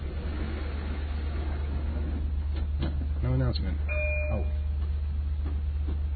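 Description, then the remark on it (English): A steady, heavy low rumble inside the 605 passenger train to New York, arriving in Smithtown, runs throughout, with a brief voice speaking over it and a short tonal chime partway through. “I'm on this train.”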